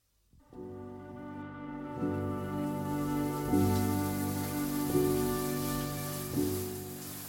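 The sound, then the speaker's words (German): A steady rush of rain-shower water, drops pattering continuously onto a person's face in a steady rhythm, fairly loud, with soft sustained musical chords shifting underneath every second or so. No one speaks. “In kontinuierlichem Rhythmus prasselten die Tropfen unserer Regendusche auf mein Gesicht.”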